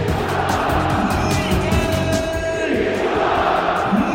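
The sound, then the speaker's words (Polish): A loud, dense roar from a stadium crowd at a Lech Poznań versus Crvena Zvezda football match in Poznań, with voices chanting together the name of Swedish goal scorer Mikael Liszak in a sustained, steady wall of sound that holds for the whole stretch without pause. “ale teraz Mikael Liszak, ta szwedzka armata, o której tak dużo mówili kibice przed tym meczem, właśnie zdobył bramkę i strzelcem gola słyszymy teraz z trybun.”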